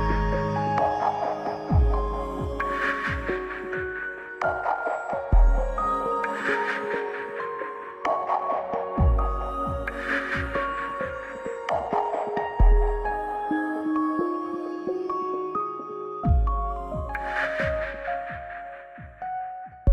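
An electronic music track plays loud, with punchy low bass hits, layered sustained synth tones and bright sweeping swells recurring every few seconds, with no voices.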